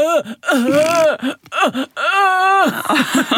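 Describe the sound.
Someone loudly imitates wailing sobs, with strained, quivering cries that rise and fall in several long bursts and short catches of breath.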